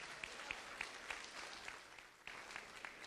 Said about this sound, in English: I'm pleased to be joined by the mayor of Germantown. Let's give him another round of applause.